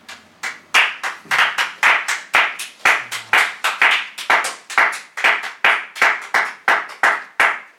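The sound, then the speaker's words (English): Hands clap in a steady, brisk rhythm, roughly two or three sharp claps per second, fairly loud, with no talking alongside. “Out of four hands clapping.”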